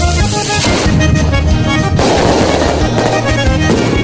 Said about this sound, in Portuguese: É, fogueta!